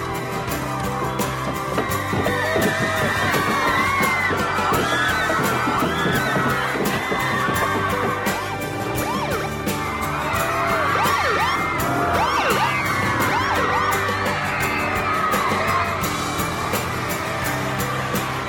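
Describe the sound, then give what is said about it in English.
A dense crowd of girls surrounding a limo screams and shrieks continuously, with scattered thumps and bangs as they bang on the limo windows mixed into the frenzied noise throughout. “Girls surround the limo and bang on the windows.”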